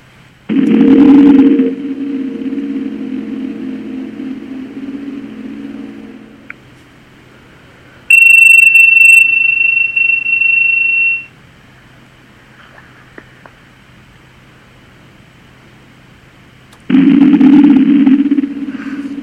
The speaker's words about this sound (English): Listening to the deep resonance of the gong.